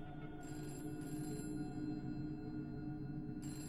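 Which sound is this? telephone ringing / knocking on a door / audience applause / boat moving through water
telephone ringing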